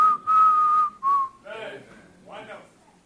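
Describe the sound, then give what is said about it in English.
Someone whistles a short hymn melody, one long sustained note followed by a brief higher one, clear, then a voice takes over with a couple of short vocal phrases. “Because everybody is worried, but you are just there whistling.”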